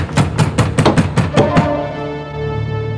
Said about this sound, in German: Es klopft schon wieder. Quatsch. Wir spinnen beide. Es hat am Tor geklopft.